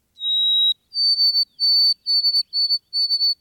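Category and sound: bird, white-throated sparrow whistled song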